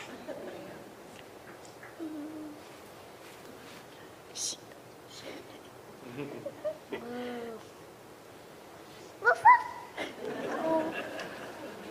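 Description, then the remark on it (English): Children's voices softly imitate the sounds of their animals for Christmas night, such as cows, goats, sheep, donkeys and a dog, including short bark-like yips, in a few scattered bursts over quiet background murmuring, louder near the end. “Can you make the same sound as your animal?”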